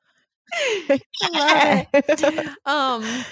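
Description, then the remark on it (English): A person loudly imitates a horse's neigh for Pumpkin rearing back, a few strained, wavering whinny-like bursts with short breaks between them, with no other talking. “And also, when he rears back, he like neighs like loudly.”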